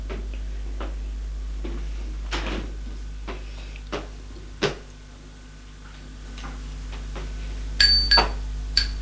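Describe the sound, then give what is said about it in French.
A door being opened: scattered clicks and knocks from the handle and latch, then a brief metallic clink near the end, over a steady low hum. “La porte s'est ouverte.”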